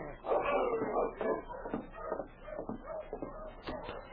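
A dog whimpers and whines outside in a run of short, wavering cries, moderately loud, with faint shuffling underneath and no one speaking.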